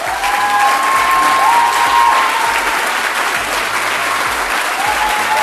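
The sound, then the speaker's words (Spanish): Loud, sustained applause from an audience fills the whole stretch, a dense steady clatter of many hands clapping at once with no pauses, and a few faint tonal whistles rising above it. “Estaba presentando, y vamos al aplausómetro.”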